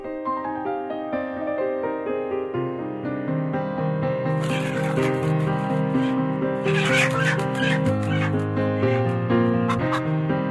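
A recorded song plays on its own, with sustained melodic tones shifting through chord changes, then brighter rhythmic accents and clucking-like bursts join midway at a steady, moderately loud level.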